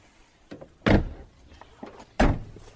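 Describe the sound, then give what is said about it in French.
A car trunk is shut twice after equipment is taken out of it: each time a light click of the latch is followed by a heavy, solid thud, the two slams roughly a second apart, with no voices. “Le temps de récupérer le matériel dans le coffre de la voiture et nous sommes en route.”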